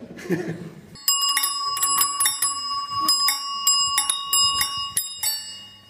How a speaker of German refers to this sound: Welche Klingel ist für ein Kinderrad am besten? Am allerbesten sind doch die großen und lauten Klingeln, oder?